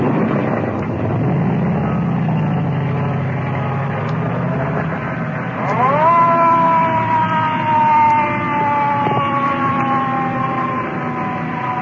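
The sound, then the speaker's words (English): A loud rumble of engines and traffic gives way to the siren of an ambulance carrying an injured man from a car crash, holding a long, steady wail whose pitch slowly sinks as it disappears into the traffic. “Ambulance disappearing in the traffic.”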